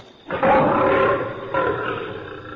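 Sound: tiger roar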